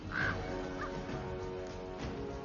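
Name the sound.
golden eagle call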